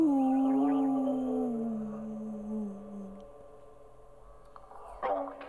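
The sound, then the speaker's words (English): A person howls like a wolf: one long, loud, sustained wail that slides slowly downward and fades after about three seconds, followed by a brief sharp vocal burst near the end. “If you're in love and that makes you afraid, howl with me.”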